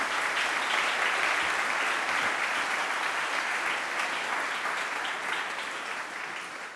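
A church audience at a confirmation service applauds steadily, a dense wash of many hands clapping at an even level before gradually tapering off toward the end, with no one speaking.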